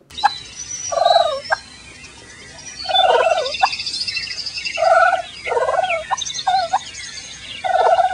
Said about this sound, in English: It is, in fact, a turkey. So it is it's a bird. It's not far off a duck.